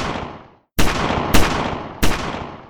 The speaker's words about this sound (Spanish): ¡El muchacho nos estaba disparando!